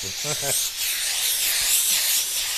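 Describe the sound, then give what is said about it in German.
A steam iron lets out a steady, loud hiss of steam that runs continuously for a few seconds as a cap on a five-part wooden hat form is pressed through a pressing cloth, with a brief bit of a voice underneath at the very start. “Und das machen wir dann auch immer so mit einem Bügeltuch und richtig mit Dampf.”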